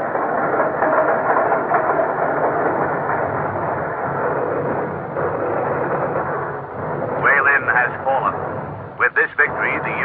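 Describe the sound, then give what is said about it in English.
A steady, loud mechanical rumble rolls on like a train running along the tracks, with short whistle-like tones breaking through near the end: a railroad train bringing up reserves and supplies behind advancing Japanese forces in China during wartime. “Behind the Japanese, as they advanced, the railroads brought up more and more reserves, more and more supplies to feed into the battle.”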